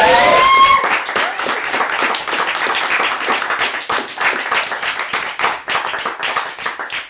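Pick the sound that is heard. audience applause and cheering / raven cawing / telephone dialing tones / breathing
audience applause and cheering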